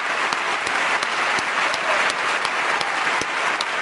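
An audience applauds a band, a dense wash of many hands clapping at once with sharper individual claps popping out, holding at a constant level for the whole stretch with no voices.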